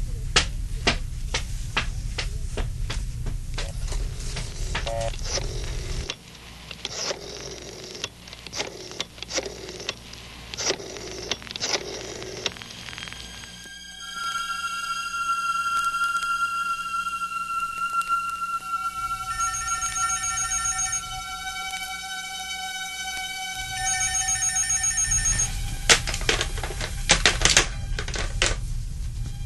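A telephone is dialed with a quick run of sharp mechanical clicks as a call is placed to an office, then a steady electronic ringing tone repeats for several seconds, clear, before more clicking and handling sounds.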